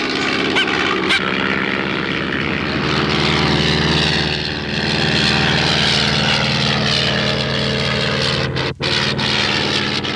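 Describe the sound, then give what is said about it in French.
A propeller airplane engine drones loudly and steadily throughout, a dense harmonic roar that holds constant, with only a brief dip near the end. “Un avion au-dessus de nous qui nous mitraille.”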